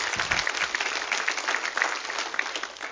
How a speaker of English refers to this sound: Come on, come on, give the Lord a good clap off today. Come on.